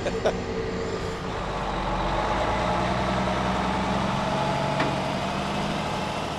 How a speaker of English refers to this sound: And then a white and green truck here to our right is loading propane and butane mix. And that actually is exported to Canada, I'm ashamed to admit.